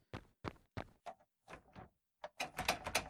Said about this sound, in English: Oh, open the door. Open the door. The most exciting thing you can start a show with.